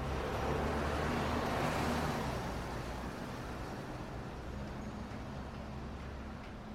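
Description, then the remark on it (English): A steady wash of street traffic noise, a broad rumble with hiss, heard while walking up the steps to a SkyTrain station; it swells briefly then gradually thins and softens as the street below is left behind, its brighter upper tones fading first over several seconds. No one speaks. “As I ascend, the street noise below begins to fade.”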